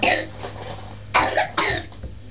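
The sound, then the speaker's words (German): A child blows their nose: three short, breathy snorting bursts with brief pauses between them, over a low steady background hum and no talking. “Oh, Nase putzen. Prima machst du das.”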